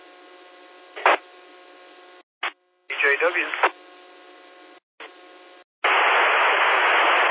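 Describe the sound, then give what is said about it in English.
A weak radio station trying to check in to a radio net, barely rising out of steady hiss, with a few brief bursts and a short garbled voice fragment, ending in a loud, continuous rush of white noise. “Okay, that last station was way down in the white noise, and I did not get you checked in.”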